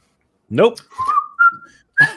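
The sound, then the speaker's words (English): Someone whistles a short melodic phrase of a few sustained, gliding notes, fairly loud, after a brief vocal sound at the start, with short pauses between notes. “You can't not whistle to that song. Like everyone who knows that song, it was whistling for the last 30 seconds.”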